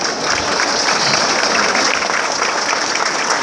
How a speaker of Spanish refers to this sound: Un fuerte aplauso, señores, por favor, para los ediles.